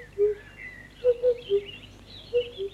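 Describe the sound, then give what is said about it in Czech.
Birds singing in quiet, shady woods: short, clear whistled notes in small groups of two or three, with a faint higher twittering running behind them. “Prospekt vychvaluje nádherné okolí a překrásné procházky stinnými lesy, kde prý ptáčkové zpívají hospodinovu chválu. Slyšíte?”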